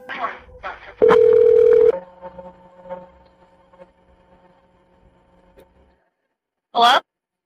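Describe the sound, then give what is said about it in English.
A phone line carries a sharp keypad or dial tone lasting about a second amid clicks and muffled voices as the person who answered the call redials the number, then faint steady hum and static, and a brief voice at the end. “person who had answered the phone redialing the number so as to confirm whether anybody needed any help.”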